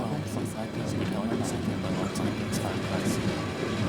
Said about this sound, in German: In der Nacht, weiter Richtung Laredo, wachte ich auf und fand mich in höchst seltsamer Umgebung. Der Zug fuhr im Schneckentempo durch Wasser, wie ein riesiger See aussah.